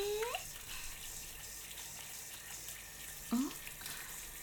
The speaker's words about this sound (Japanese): あらあら、ねえ、あなた、シャワーで洗ってるだけなのに、こんなにおちんぽを大きくして。